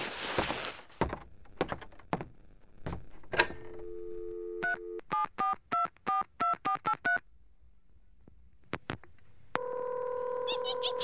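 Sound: dialing a telephone number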